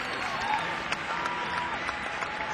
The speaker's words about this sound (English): Let's give the great … a round of applause.